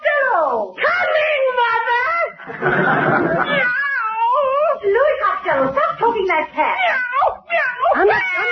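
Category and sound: animal, cat yowling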